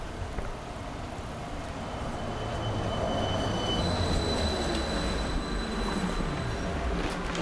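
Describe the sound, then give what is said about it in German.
A bus pulls in with a loud, steady low rumble that swells slightly, thin high-pitched whining and squealing tones riding over the engine noise, with no one speaking. “Der Bus kommt nämlich jetzt schon gerade.”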